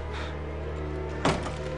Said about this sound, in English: Come back in! Shut the door! Don't hurt her.